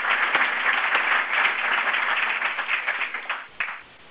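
Sustained applause from an audience at a meeting, given for the Executive Committee, a dense steady wash of many hands clapping at moderate volume that thins out and tapers off near the end.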